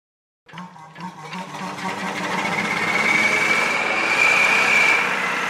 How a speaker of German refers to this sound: Das ist ein Junkers-Motor, ein Motor mit gegenläufigen Kolben. 2 Zylinder, 4 Kolben. Das ist was Seltenes. Wurde im Flugzeugbau verwendet.